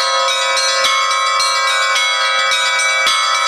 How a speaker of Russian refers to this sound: Не только маленький скверик и все прилегающие улицы наполнились пением переносной звонницы, ликующими колокольными переливами, призывающими на праздник и стар, и млад.